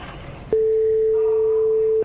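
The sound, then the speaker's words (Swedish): A steady phone ringback tone of a call from Landvetter Airport to Sweden sounds after a brief click, holding one continuous pitch for about a second and a half at moderate loudness, with no voices present. “Och nu ringer de även från Landvetter flygplats.”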